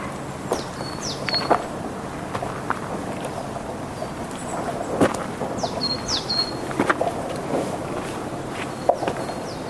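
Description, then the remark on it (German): Birds chirp and sing loudly outdoors on a soundwalk, their short high calls repeating every second or so over a steady background hiss, with occasional soft footstep-like thuds. “Hier an dieser Stelle hört man die Vögel sehr viel lauter, als dies noch beim dritten Soundwalk an der Modau der Fall gewesen ist.”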